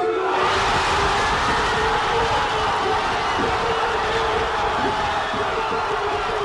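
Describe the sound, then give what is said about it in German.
A huge crowd of Argentina football fans in Buenos Aires cheers and roars without pause after Argentina beat France on penalties to win the World Cup, a loud, dense wash of voices that stays steady, with occasional whoops rising out of the din. “Der Jubel bei den Fans in Buenos Aires ist riesig.”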